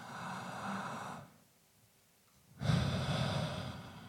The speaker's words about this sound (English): And you can do this with me if you want. You know, breathing normally goes like this.